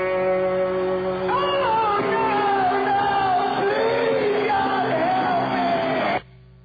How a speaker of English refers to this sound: scream, oh God.